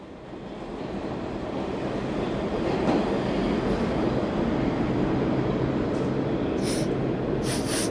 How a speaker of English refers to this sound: I'm underground at the 2nd Avenue and Houston subway stop, just minutes from my apartment.